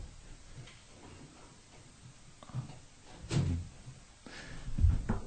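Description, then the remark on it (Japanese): A studio door is opened: a latch click followed by a few dull thumps and knocks against a quiet background, with no one talking. “はい、ちょっと ドアだけ開けてきます、 ね、そうですね、もう 何もしてなければドア開けても大丈夫ですよね。”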